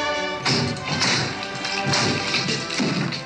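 Several heavy knocks on a door land at uneven intervals, fairly close and loud, over a steady resonant hum that fills the background throughout.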